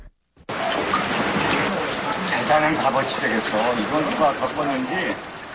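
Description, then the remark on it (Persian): Steady rain falls throughout on a rainy day in Chungju, South Korea, a dense, even hiss, while people talk over it in the foreground. “روزی بارانی در چونگجو، شهری که بن کیمون کودکیش را گذرانده”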